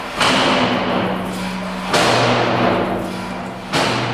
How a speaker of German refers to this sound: Zuerst zieht der Philipp Spindler die Schieberklappe auf und zu, damit die Löwen hören, dass sie reinkommen sollen.